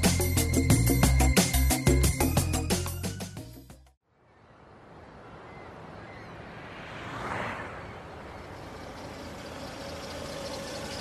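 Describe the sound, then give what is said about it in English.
After a few seconds of music, an old car's engine runs with a steady, rough rumble that swells briefly as if revving or passing, then settles back to an even drone. “Luckily, I managed to start it up and drive it here.”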